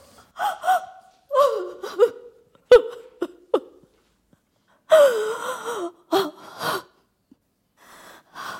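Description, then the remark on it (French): A man cries and sobs in short, gasping, hiccuping bursts, broken by a longer wavering wail in the middle and ragged breaths between, with no words spoken. “Oui, monsieur, je pleure.”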